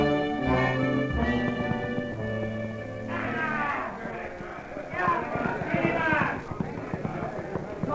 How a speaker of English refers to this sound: Come on, we'll gallop over there. Come on, boy.